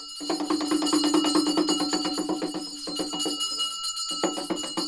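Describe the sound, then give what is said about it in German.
Shrill, clanging bells ring over rapid, steady hand-drum beats coming out of a small chamber in a former palace, where a priest loudly performs a ritual during the Hindu Dashain festival, a loud, dense din that breaks off briefly twice before resuming. No one speaks. “Aus einer kleinen Kammer dringt der schrille Krach von Handtrommeln und Glocken nach draußen.”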